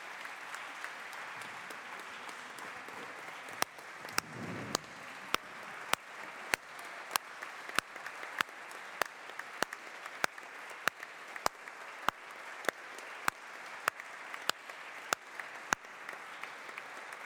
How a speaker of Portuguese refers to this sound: Suponho que podemos dar este aplauso conjunto como aprovação por unanimidade, o chamado processo de votação, de aprovação por unanimidade e aclamação.